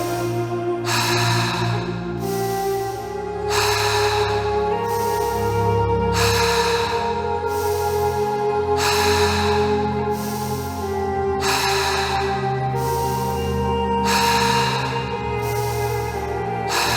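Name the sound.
rhythmic breathing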